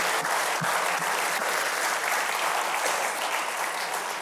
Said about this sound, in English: Would you give Andrew a round of applause one more time? We're so glad he's here.